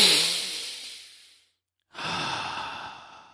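A long deep breath drawn in and slowly let out, followed after a brief pause by another steady, airy breath, fairly soft with no talking.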